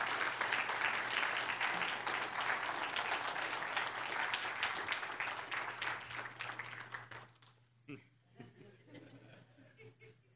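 An audience gives the Lord a clap offering and thanks the worship team, bursting into sustained, dense applause for about seven seconds, a steady wash of many hands clapping, then it fades quickly, leaving scattered claps and soft murmurs and chuckles.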